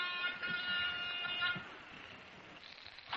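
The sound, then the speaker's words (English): A gold-looking apartment door buzzer, pushed at the swank apartment of Mr. and Mrs. Perry Shane, sounds one steady, harsh electric buzz for about a second and a half, then cuts out, leaving faint background noise. “Even the buzzer I pushed in the swank layout looked solid gold.”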